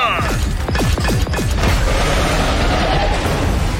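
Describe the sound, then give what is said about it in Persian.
A rapid barrage of weapons fire in a full-force attack on a shield. Repeated descending zaps and loud blasts fill the first second and a half, then give way to a dense, rumbling wash of explosions and crashing debris. “آتش با تمام قوا حمله.”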